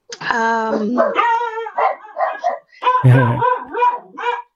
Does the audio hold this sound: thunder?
no